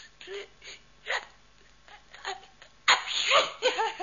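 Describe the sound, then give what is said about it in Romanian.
A few short, gasping intakes of breath build up before a loud, explosive sneeze bursts out, trailed by some quick breathy sounds. “M-a lovit strănutul.”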